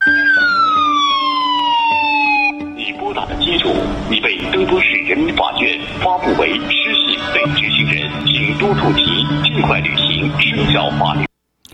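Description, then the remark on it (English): A loud, siren-like phone alert in China for an incoming call from a caller with a low social credit score, opening with a falling electronic wail, then giving way to a dense, blaring jumble of tones and noise with voices mixed in, continuous until it cuts off. “Instead of getting a phone, just a regular ring, and you look down and you see the name, this is what happens to your phone in China.”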